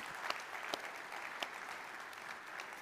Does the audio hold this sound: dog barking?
no